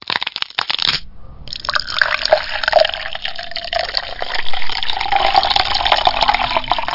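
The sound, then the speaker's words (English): Canadian whiskey glugs and splashes steadily into a tall glass without ice for several seconds, its pitch rising as the glass fills, after a brief clatter of glass at the start. “Just sit the fuck down and pour me a tall glass.”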